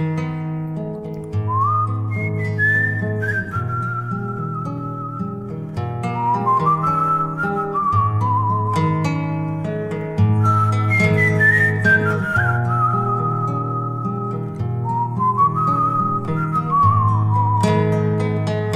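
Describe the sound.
A person whistles a slow, gliding melody in clear sustained phrases, riding over a steady instrumental accompaniment of held chords; no one speaks.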